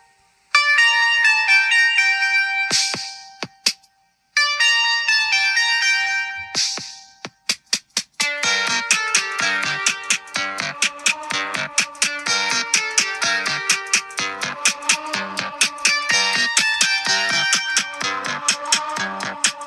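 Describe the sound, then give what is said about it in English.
Bright, tinny synth melody with bell-like tones, starting as two short phrases then settling into a steady, busy electronic pattern with a pulsing beat, reminiscent of an early mobile phone ringtone. “sounds like a ringtone from 2001.”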